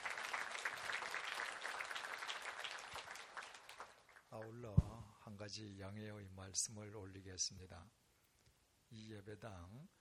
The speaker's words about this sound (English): Also, let's thank and give applause to those who have been working hard to allow this worship to God for the entire year in the places seen and unseen. Let's give applause.